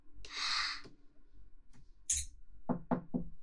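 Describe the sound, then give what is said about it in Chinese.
Three quick, firm knocks on a door, fairly loud, come in a rapid rhythm near the end, after a brief rushing, breathy noise and a short hiss; the knocking announces a meal being delivered. “开门吧，餐来了。”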